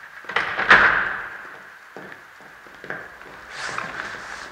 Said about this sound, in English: Close the goddamn door